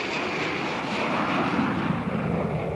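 airplane engine flying

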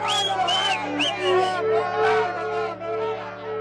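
crowd shouting

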